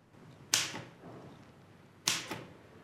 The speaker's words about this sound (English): In the adjoining office, the one-armed man types at Mrs. Lytton's old desk. He adjusts the position of the typewriter with his stump, then looks up at Dr. Niven and nods with a smile.